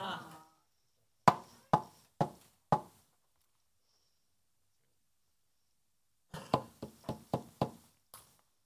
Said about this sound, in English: When somebody's knocking at the door, they're waiting for you to open the door.